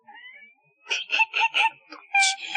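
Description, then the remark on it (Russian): A child cries in a run of short, rhythmic sobbing wails, rising into a louder, higher wail at the end. Fairly loud, with no talking. “Не плачь, не плачь, не плачь, он придет на будущий год.”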